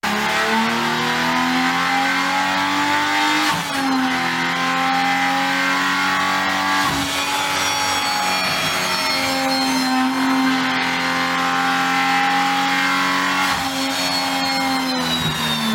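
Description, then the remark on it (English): A new inline-six Hurricane engine revs hard and continuously in durability testing set up by Stellantis, its pitch climbing and falling in repeated sweeps with sharp shifts every few seconds, loud, with no voices. “This is the new inline six Hurricane engine. It's doing a durability testing that Stellantis has put together”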